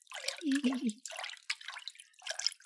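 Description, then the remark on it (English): Water flicked and dripping, with several quick splattery bursts of droplets and a brief low gurgle near the start, then scattered light drips trailing off. “I'm gonna flick you with a little water. Flick. Flick.”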